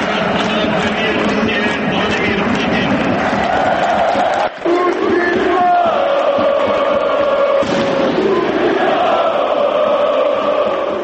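A large stadium crowd of football fans at the Marakana in Belgrade, during the Zenit vs Crvena zvezda match, cheers and chants in unison, greeting Russian president Vladimir Putin and singing Katyusha to him: a loud, sustained roar of many voices with melodic sung phrases rising above it, briefly dipping before resuming.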